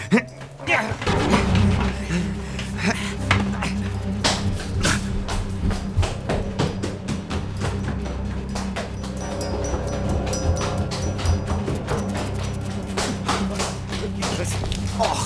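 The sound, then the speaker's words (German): Chairs scrape and knock in a rapid, busy jumble of wooden thuds and taps as they are wedged between a door and the first stair step to barricade the door, which has no bolt on the inside, in a lighthouse, with voices murmuring underneath. “Wir klemmen die Stühle zwischen die Tür und die erste Treppenstufe.”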